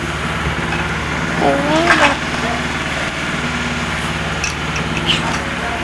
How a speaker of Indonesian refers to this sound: Suara ini masuk ya, suara motor.